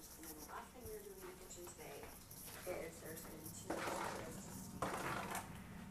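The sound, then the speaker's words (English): Dishes and pots clatter and clink during a timed speed clean, with a few sharper scraping bursts toward the end, while a voice talks faintly underneath. “That means we're done with dishes.”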